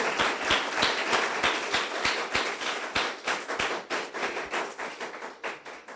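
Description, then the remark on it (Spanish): A crowd gives an applause to the Lord, breaking into sustained clapping. Many hands clap in a dense, bright patter with sharper individual claps standing out, holding steady for several seconds before thinning slightly at the end. “Oigan, doy un aplauso al Señor.”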